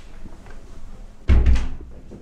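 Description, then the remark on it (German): The door of hotel room 312 is pushed open with a sudden heavy thunk and a brief rattling of the handle and latch. It sounds loud, following a quiet stretch of hiss. “Öffne die Tür. Jetzt.”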